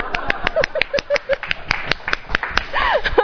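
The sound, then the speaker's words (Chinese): A burst of audience applause: many sharp, irregular claps overlapping in a steady patter for about three seconds, with faint voices murmuring underneath. “可是你要知道哦，我可能有几个字讲得不好，可是其他都讲得很好，我们要不要给他一个鼓掌？”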